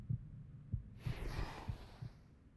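A steady, close heartbeat thumps low and muffled in a regular double rhythm, about five beats, with a soft breathy rustle swelling partway through.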